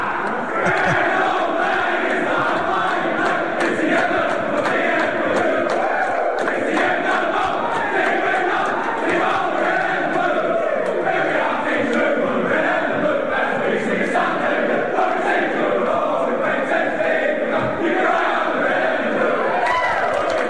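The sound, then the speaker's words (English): Demons (the D's) football players circle up and belt out their club song together after a win that keeps their 2020 season alive, a loud, rowdy chorus of voices that keeps going for about twenty seconds with shouting mixed in. “The D's players are circling up, and you reckon this one might be sung with some gusto.”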